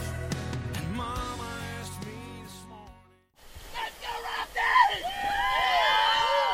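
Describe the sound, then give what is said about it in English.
After a few seconds of music and a brief pause, rafters on a whitewater rafting trip on the Kings River near Fresno, California whoop and shout excitedly over a steady rush of whitewater, with rising and falling yells overlapping loudly. “Those are the sounds of a whitewater rafting trip on the Kings River near Fresno, California.”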